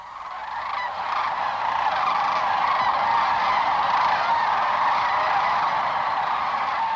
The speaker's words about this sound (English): The sound that we were listening to and we're hearing now, how large a flock typically would create such a din, if you will? Yeah, we'll often see a flock of up to 10,000 cranes at a time lifting off the river at sunrise or gathering over the river